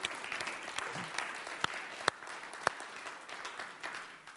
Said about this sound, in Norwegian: Skal vi bare gi dem en applaus, selv om de ikke er her i dag?